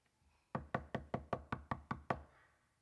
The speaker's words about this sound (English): And so the friend comes to the door and he knocks.